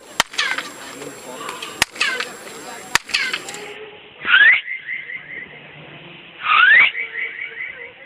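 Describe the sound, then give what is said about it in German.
Three sharp handclaps by a tour guide, each answered by a chirping echo off a pyramid, are followed by two loud rising whistles, each trailed by a ringing, warbling echo that bounces back off the pyramid outdoors. “Ja, also hierzu haben wir tatsächlich zwei Klangbeispiele von Touristenführern gefunden, die einmal mit Klatschen und einmal mit Pfeifen eben diesen Echo-Effekt demonstrieren.”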